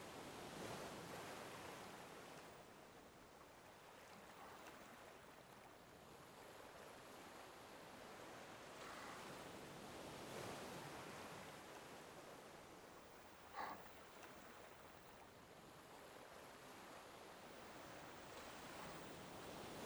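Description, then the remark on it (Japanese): Steady ocean surf washes in, with broad hissing swells rising and falling every few seconds as waves break along the shore. No one speaks; a brief click cuts through near the end. “それにしてもあんたも全然飽きないわよね、海を見ることに。”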